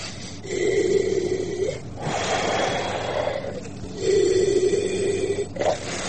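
Slow, heavy breathing from an oxygen supply, two full cycles of a rasping, reedy intake followed by a broad airy hiss on the exhale, steady and loud with no talking.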